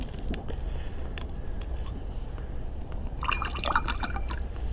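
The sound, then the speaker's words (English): A fizzy drink is opened and poured, with a steady low rush of liquid and a brighter crackle of fizzing bubbles swelling near the end, fairly quiet. “Got to be careful, because it's fizzy. Sometimes people shake it up before I open it up.”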